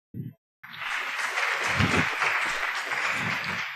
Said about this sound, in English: So welcome and give a warm applause